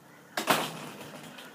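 A house door shuts behind someone leaving the house, with a quick sharp knock followed almost immediately by a heavier thud, then a brief fading rumble. No one speaks.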